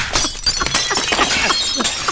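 A phone wedged between the middle arms of a recliner cracks and crunches as the recliner is put down, a dense run of sharp, bright snaps and splintering crackles lasting about two seconds, fairly loud, with no voices.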